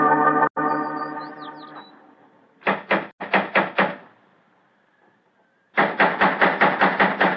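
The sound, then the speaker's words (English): A steady droning tone fades out, then someone knocks on a door in sharp, loud bursts: a few raps, a short pause, and a longer run of about eight quick knocks, with no voices. “He's home while the devil doesn't he answer the door.”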